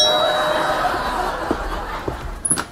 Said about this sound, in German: Du meinst den Mediator, den wir eingeladen haben, um unseren Streit beizulegen? In einer guten Sitcom würde er genau jetzt an der Tür klingeln.